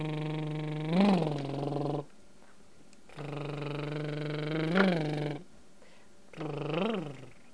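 motorcycle engine running

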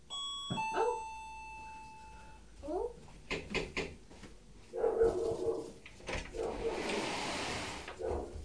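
doorbell ringing

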